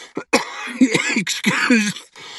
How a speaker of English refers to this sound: Excuse the coughing. I've been fighting a cold here for a week, so my apologies.